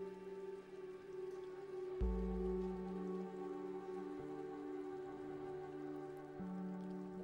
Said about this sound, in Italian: Rannicchiata nel fondo di uno stagno, ascolto la pioggia cadere.